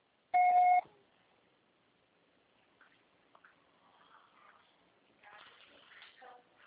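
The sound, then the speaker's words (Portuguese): A single loud electronic voicemail beep, short and steady in pitch, sounds at the start to signal the start of recording, followed by faint rustling and quiet room noise. “Grave seu recado agora.”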